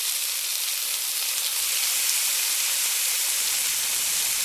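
A frying pan sizzles with a steady, bright hiss that holds evenly for several seconds, fairly loud, with no voices over it.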